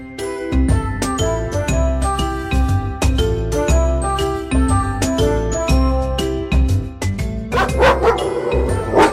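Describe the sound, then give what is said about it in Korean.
A large Tibetan Mastiff barks repeatedly in deep, loud bursts over a bed of tonal music with tinkling, bell-like accents, with no one talking. “몸은 나기만 하고 성질은 사납고 목소리가 우렁찬 것이 마치 사자와 같다.”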